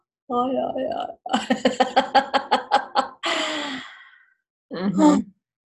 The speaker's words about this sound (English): That we're all yawning.